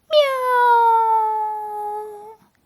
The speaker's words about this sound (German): Die gefleckte Katze sitzt auf dem Baum und schaut herunter zu Frau Usebuse. Die gefleckte Katze öffnet ihr Maul. Miau! Und noch einmal.